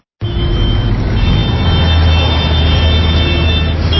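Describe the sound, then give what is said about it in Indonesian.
Steady, dense road noise of idling and slow-moving cars and trucks in a weekend traffic jam in Jakarta, a constant low engine rumble with faint hum, filling the scene without pause. “Aduh, macet banget sih. Padahal kan weekend.”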